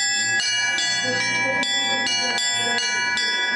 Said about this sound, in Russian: Колокол извлекает звук крестом. Чем выше, тем у него охватывание территории. К звоннице потянулись. Передвижную колокольню расположили поближе к праздничному торжеству в честь Дня Победы. Поэтому желающих подергать за языки было достаточно.